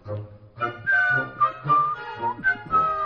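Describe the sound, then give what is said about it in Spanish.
Someone whistles a short, bouncy march tune, the thin tones rising and falling in quick phrases, with a breathy, half-voiced hum running underneath. “No estoy yo para silbar.”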